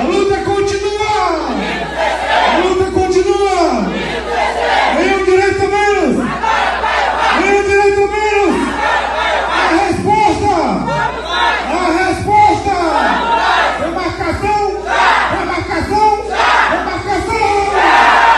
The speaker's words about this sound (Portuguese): O encontro tem sido marcado por gritos de luta e resistência, reforçando a mobilização dos povos indígenas em defesa de direitos, territórios e políticas públicas voltadas às comunidades tradicionais.